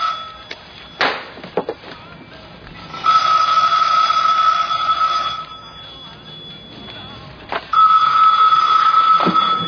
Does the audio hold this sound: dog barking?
no